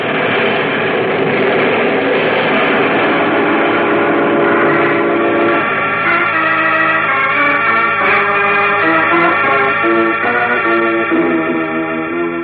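Trains at the Metropolis Railroad Station: loud, sustained whistle and horn tones blare over a steady mechanical rumble, shifting midway into several overlapping held pitches. No one speaks.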